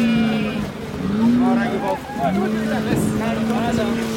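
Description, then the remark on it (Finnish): Several goats bleat loudly and repeatedly, overlapping one another, over a steady low engine drone with people talking in the background. Men throw the goats from a truck bed into a small wooden boat on the Senegal River in northern Senegal, to be ferried across to Mauritania. “Puisessa veneessä odottelevat vuohet saa pian kyydin vastarannalle,”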